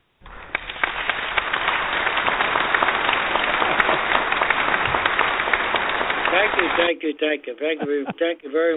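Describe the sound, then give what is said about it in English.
A burst of recorded crowd applause played as a sound effect from a small applause device, dense and steady clapping for about seven seconds, then it cuts off abruptly and a man starts speaking. “As a matter of fact, I got a little applause thing right here. And if you will just bear with me, how does this sound to you”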